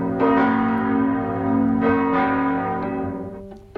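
Church bells ring out loudly under the colonnades of Bežigrad Stadium during the sound walk Zeleni atri mesta, with rich, sustained harmonic tones, fresh strikes layering over the lingering hum in an overlapping peal, then briefly fading before another strike at the end.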